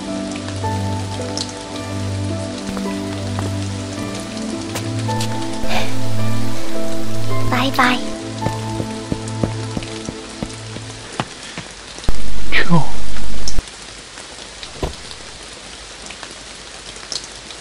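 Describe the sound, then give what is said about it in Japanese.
Steady rain falls throughout, a dense hiss of drops striking a surface, with low tonal music underneath and a few brief spoken words in a quiet voice. “耳にはいつまでも雨の音だけが痛く鳴り響いていた。”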